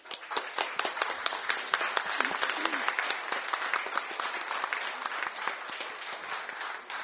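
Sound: applause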